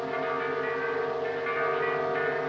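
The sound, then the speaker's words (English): Church bells ring in a dense, continuous peal, their overlapping tones sustained at a steady moderate level with no speech. “devil's bells ring?”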